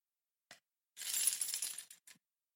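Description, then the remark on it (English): A set of keys to the Tumbling Saber Studio jingles: a brief clink, then about a second of bright, continuous metallic rattling, ending with a final small jangle. No one speaks. “These, my friend, are the keys to the TSS, the Tumbling Saber Studio.”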